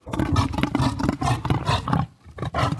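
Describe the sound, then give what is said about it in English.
A reindeer's deep, guttural chuffing call: a rapid run of loud, percussive grunts in steady rhythm, with one brief pause before the grunting resumes. “I didn't know that reindeers made much of a sound at all, but they made this kind of chuffing sound that almost is like the tail of a lion territorial call, but not quite.”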